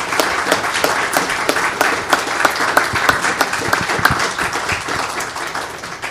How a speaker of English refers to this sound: And I even want to ask if we could just give them a round of applause just to appreciate, express our appreciation.